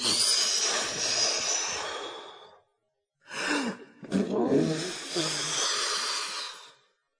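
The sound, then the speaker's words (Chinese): A voice imitates a wolf filling up with air and blowing hard at a pig's stone house: two long, forceful, breathy blasts of air separated by a short pause, loud, with no words spoken. “于是狼鼓足气，使劲儿地吹。”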